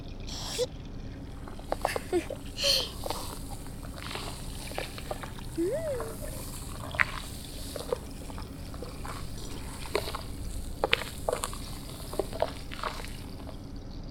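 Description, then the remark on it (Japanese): Foam on an ear being gently mixed for ASMR: a soft, continuous run of tiny crackles, bubbly pops and wet squishes scattered irregularly over a steady low hiss, with a few slightly sharper clicks standing out. “軽く混ぜてるのに優しくて気持ちのいい音ね。”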